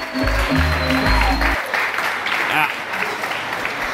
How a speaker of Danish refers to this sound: Lige en klapsalve til mændene i kitlerne, for det er sgu da et win, hvis det rent faktisk lykkes.